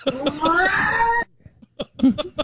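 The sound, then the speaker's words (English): A bobcat lets out a loud, wavering, human-like scream lasting just over a second, its tone bending upward and sliding, followed by a few short, sharp vocal bursts. “So funny how they yell like a human.”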